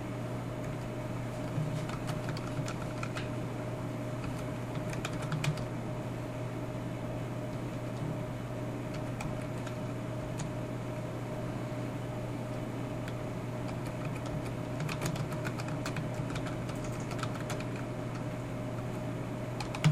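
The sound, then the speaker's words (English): Light, irregular clicking in short bursts of keys tapped on a computer keyboard as someone types in code, over a constant low mechanical hum. No one speaks. “Wants me to type in a bunch of code.”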